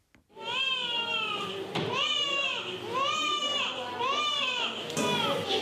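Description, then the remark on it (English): Newborn babies wail in a hospital room in Accra, a series of loud, high, drawn-out cries rising and falling in pitch, repeating every second or so without pause. “The cries of newborn babies fill a hospital room in Accra.”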